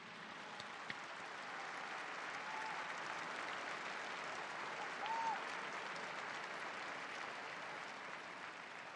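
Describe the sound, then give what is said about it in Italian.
Sustained applause from a large crowd for their grandparents fills the whole stretch, a dense, steady roar of clapping hands, with no voices rising above it. “Per questo vi invito a fare un applauso grande ai nostri nonni, tutti.”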